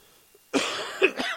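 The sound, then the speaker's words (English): A single loud cough bursts out after a moment of near silence, harsh and breathy, trailing into a rasping throat sound with no talking. “Big cough for ….”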